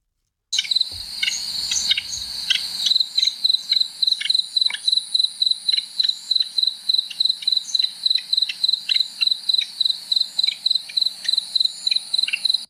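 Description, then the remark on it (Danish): A dormouse calling: a steady, rapid series of high, shrill chirping pulses repeating evenly for about twelve seconds, with faint low rustling at the start and no voices. “Det er en syvsover.”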